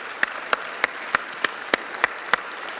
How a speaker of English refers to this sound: The best weblog overall, before I say who won, I just want to give a special mention to the runner-up, which was the Han Han blog out of China. Let's give a big round of applause to Han Han.